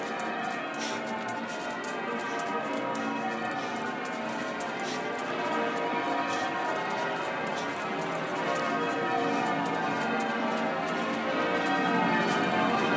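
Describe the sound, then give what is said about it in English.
Cathedral church bells peal continuously, their overlapping tones growing slightly louder as the listener walks down a road toward the cathedral, with footsteps and faint street noise beneath. “Forward, it sounds as though the bells are clearer coming down this road, so it suggests we're getting closer to the cathedral.”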